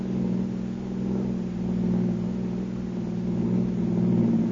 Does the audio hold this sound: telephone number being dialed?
no